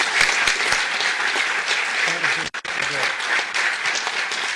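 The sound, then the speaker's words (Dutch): Steady applause from a crowd, a dense wash of clapping that keeps going throughout, with a brief dip near the middle before resuming, and faint voices underneath. The applause welcomes a new member who has just taken the oath of office and received a bouquet of flowers. “En een applausje, denk ik.”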